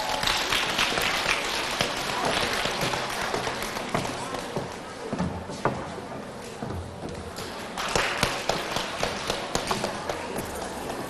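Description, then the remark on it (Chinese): A crowd at a Guan Yin Citta Dharma Door (心灵法门) Buddhist gathering claps steadily and warmly for about eleven seconds to welcome a speaker to the stage, a dense, even patter of many hands that swells slightly toward the end. “现在让我们用热烈的掌声，有请于同修和我们分享他的学佛体会。”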